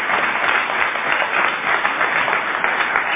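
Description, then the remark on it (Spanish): Steady, dense applause from an audience at the Caras y Caretas show, an ovation for Gillespie: a continuous loud wash of many hands clapping with no voices rising above it. “No menos injustificada será la ovación tributada a Gillespie.”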